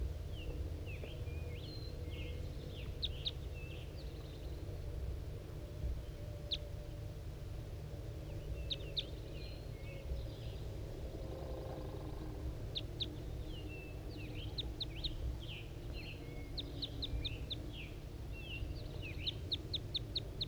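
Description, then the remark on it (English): A male bird sitting in a pine halfway down a hill gives repeated sharp chirping calls while a second bird answers with similar chirps from inside a net, the exchange recurring in bursts over steady low background noise. “It's a male, and he's sitting in the pine down halfway down the hill, and that's him calling and 5-3 responding from inside the net.”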